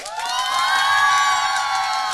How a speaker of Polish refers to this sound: Zróbcie wielkie brawo, teraz wy dla nich pokażcie im, jak to się robi. I zróbcie hałas.